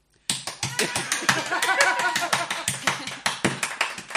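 Loud, rapid clapping directly into a microphone bursts in after a brief silence and keeps going for about four seconds, sharp crisp hand claps in a fast, uneven rhythm with faint voices underneath.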